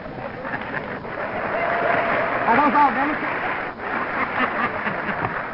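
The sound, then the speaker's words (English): Sustained audience applause, a dense crackle of many hands clapping that swells and holds steady, with a few voices and faint laughter rising briefly through the noise. “Were those all Democrats that applauded?”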